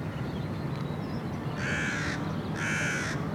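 A crow caws twice, two harsh, raspy calls about a second apart, clear above a steady low background rumble, with no one talking.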